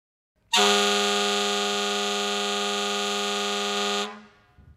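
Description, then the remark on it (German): A single long, loud horn blast held steady for about three and a half seconds, rich and brassy like a truck air horn, then cut off abruptly with a short fade. No talking. “Hupen. Gehupe von irgendeinem Laster oder Auto.”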